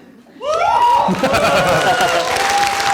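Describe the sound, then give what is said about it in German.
After a brief quiet moment, audience applause bursts in and continues loudly and steadily to the end, with shouting and cheering voices rising above the dense clapping. “Wenn man dafür schon Applaus kriegt, das natürlich.”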